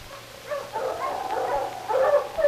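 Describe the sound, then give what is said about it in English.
A sled dog team of huskies, driven by Sergeant Preston of the Northwest Mounted Police up to Pat Gallagher's cabin on the shore of Indian Lake early in the morning, yips, whines and barks together in an excited, overlapping chorus, with high wavering cries swelling toward the end and no talking. “Hello, you huskies.”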